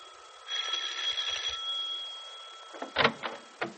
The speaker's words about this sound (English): Several hours later, Penny's doorbell rings and Nora answers it.